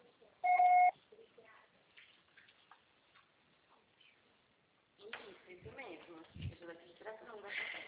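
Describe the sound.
A single loud, steady electronic voicemail beep sounds briefly near the start, after a Portuguese prompt to record a message. A quiet stretch with faint murmurs follows, and then people begin talking.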